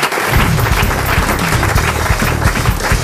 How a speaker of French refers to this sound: Mais non, on applaudit encore Christine.